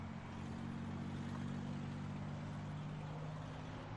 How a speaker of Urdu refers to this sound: ابھی ابھی اسی طرح کی ایک گاڑی آئی ہے، میرے سامنے سے گزری ہے، ایک لیڈی اسے چلا رہی تھی. یہ والی کون سی گاڑی تھی؟ بی ایم ڈبلیو X3 سفید کلر پہ.